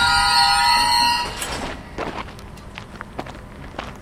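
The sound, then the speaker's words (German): A freight train loaded with scrap metal for the steelworks at Gerlafingen, Switzerland, passes by. Its wheels let out a high, sustained metallic squeal, then give way to rumbling and scattered clanks and knocks of rolling cars. “Jeden Tag fahren dutzende Lastwagen auf Gerlafingen und täglich auch zwei Güterzüge. voll mit Schrott.”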